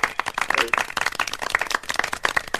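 A short burst of canned applause from an applause button: a small crowd clapping in a dense, steady patter for a couple of seconds, even in loudness, with no voices over it.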